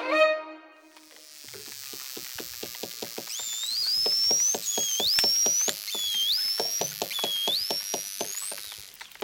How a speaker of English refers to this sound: And finally, those noises you've just heard were made by bottlenose dolphins. They communicate with each other using a wide range of squeaks, chirps, screams, grunts, and whistles.